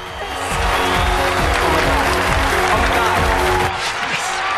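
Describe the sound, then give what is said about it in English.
Loud, continuous clapping that sounds like many hands at once, as singing contestants gathered on a stage are revealed by spotlight; a dense rattling wash lasting the whole time, with a low steady tonal hum underneath and no talking. “He looks delighted and claps.”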